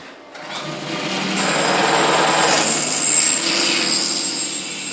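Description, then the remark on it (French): Steady sawing through wood, fairly loud, with a rapid rhythmic rasp that runs unbroken for several seconds in a workshop, with no voices. “Alors, je scie.”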